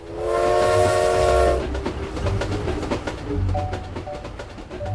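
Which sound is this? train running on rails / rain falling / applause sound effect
train running on rails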